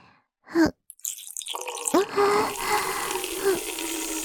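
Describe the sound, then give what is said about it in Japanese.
After a short knock, a steady stream of urine pours into a small paper cup for a urine test at a routine checkup, hissing continuously, with a hollow resonant tone that shifts slightly as the cup fills. “今日は定期検診で検尿があるから、せっかくだし紙コップにするところ取るね。”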